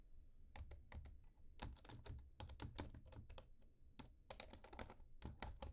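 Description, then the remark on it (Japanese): Crisp computer keyboard typing on the right side, recorded with a binaural microphone, in irregular bursts of rapid clacks with brief pauses, fairly quiet overall with a low background hum and no voices. “まずはですね、いろいろお題がありまして、まずはパソコンのキーボードのタイピングですね。ではタイピングの音いきますよ。”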